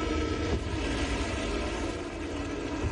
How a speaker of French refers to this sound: Samedi 23h, les départs de missiles iraniens illuminent et déchirent le ciel du Moyen-Orient.